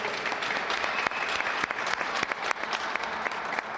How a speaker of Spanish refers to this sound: Y yo creo que este aplauso es el mejor homenaje para el equipo de fútbol que está en el círculo central de este pabellón y que va a ser ahora el que haga entrega a la directora del centro de ese trofeo, de esa placa.